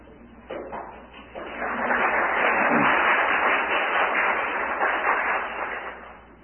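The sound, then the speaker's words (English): Audience applause for the speaker's mother and father as they stand swells quickly into a steady, dense wash of clapping that holds for several seconds, then gradually tapers off. No voices are heard. “Nobody's clapped for me yet, and I've been here all week.”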